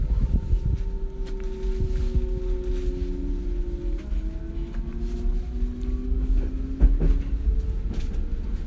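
Interior of a moving S-Bahn commuter train on the way to work: a steady, heavy low rumble with the electric motor's whine sliding up and down in pitch, plus occasional clunks and rattles from the carriage.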